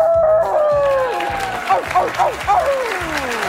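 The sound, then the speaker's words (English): At the Oscars awards ceremony, a person lets out a long, sliding wolf-like howl, followed by several shorter wavering yelps, loud, over steady applause and crowd noise. “We give this one to our wolf.”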